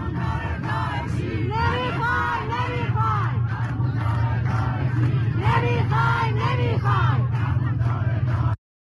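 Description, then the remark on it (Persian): A large street protest crowd in Semirom, Iran, chants against the Islamic Republic on Saturday, 10 Dey, in loud, rhythmic bursts of shouting voices, over a steady low rumble, continuing for about eight seconds before cutting off abruptly. “بله، به علت حضور گسترده و باشکوه مردم سمیروم در 40 کشته شدگان، امروز شنبه 10 دی مردم باز هم به خیابان آمدند تا حق خود را از حکومت داعشی و بچه کش جمهوری اسلامی پس بگیرند.”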